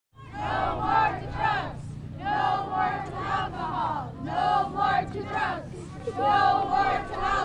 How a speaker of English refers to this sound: A crowd is gathering in front of the Queethluck post office. Students, parents, teachers, IRA members, state troopers, VPSOs, AVCP representatives, and police officers from Queethluck, Akiak, and Akiachuk. They all stand outside. Many hold signs,